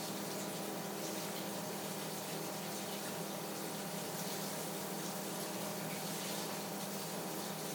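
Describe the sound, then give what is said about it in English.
Cold tap water runs in a steady, unbroken hiss for several seconds while an onion, its first layer removed, is washed under the stream. Nobody speaks. “So the trick to this, and let me wash this a little bit in cold water.”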